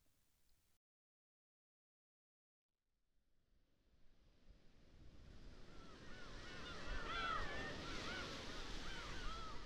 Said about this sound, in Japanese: 遠くからする波の音